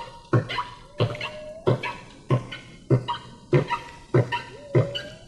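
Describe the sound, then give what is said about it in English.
A run of whale song squeaks, short sharp yelping calls with rising whistled tails, repeating in a steady rhythm about every half second as part of a song of repeating phrases, fairly loud with no talking. “The squeaks.”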